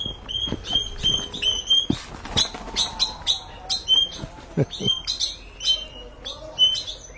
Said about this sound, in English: What kind of bird was that? Ruiseñor. Yeah, it's very, very beautiful song he makes.